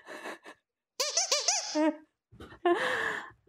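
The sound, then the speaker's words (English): A squeaky donut toy lets out a rapid run of high, wheezy squeaks, about five in a row, loud, signalling the start of a game round, with brief voices and laughter before and after. “the round begins when the donut squeaks.”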